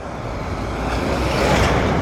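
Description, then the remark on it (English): A heavy truck roars along a road in Nairobi very close by people walking beside it, its broad rumbling engine and tire noise swelling steadily louder over a couple of seconds as it draws near. “That truck was offended that we were too close to it.”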